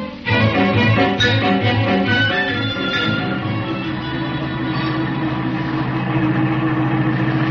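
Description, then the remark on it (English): A car engine idles with a steady low rumble and a faint rise in revs at the start as the vehicle pulls in behind another car, then settles into an even, continuous hum. “I'll pull in behind their car.”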